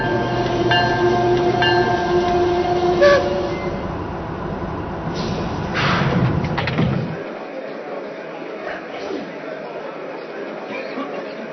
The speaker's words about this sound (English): track number 3, train number 25, the 20th Century Limited.